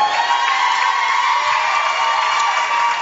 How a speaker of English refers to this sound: You know, there's not a capacity crowd here, but they sure are loud enough. That, indeed, they are.